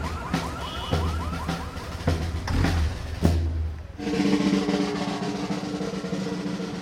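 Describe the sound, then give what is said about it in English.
Several car alarms blare at once during a parade in Chinatown, set off by the vibrations of a marching band's bass drum; one gives rapid warbling chirps, then switches to a steady pulsing electronic tone, loud over low rumbling street noise. “The bass drum or the band is loud enough, and the vibrations frequently will set off 3 or 4 car alarms in a parade.”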